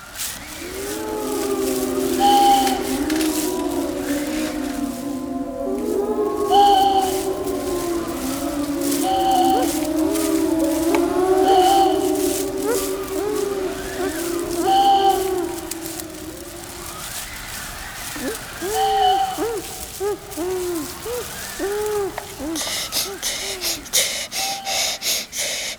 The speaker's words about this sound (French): Oh, une forêt sombre et profonde. On ne peut pas passer dessus. On ne peut pas passer dessus.